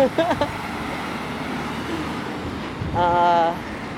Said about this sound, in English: Oh boy, you hear the trucks. That's how you know we finally made it to 30th Street.